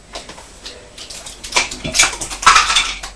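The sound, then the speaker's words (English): Wooden toy trains that were dropped on the floor clatter and knock together as they are picked up, a run of irregular hard clacks that grows busier and louder toward the end, with no talking. “Have you dropped the trains on the floor? Mm-hmm. Don't worry, I'll pick them up.”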